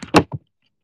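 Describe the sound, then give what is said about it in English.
A sliding closet door rolls briefly along its track and shuts with a loud thump, then a softer knock, all in under half a second with silence after. “This is my closet door. It's a sliding door.”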